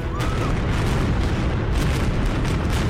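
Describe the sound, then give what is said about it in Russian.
Continuous rumbling booms of a festive fireworks display closing the Kataklysmos festival in Cyprus, dense low-frequency thuds overlapping into a steady roar with occasional brighter crackling bursts, outdoors. “Завершается катаклизмос торжественным салютом.”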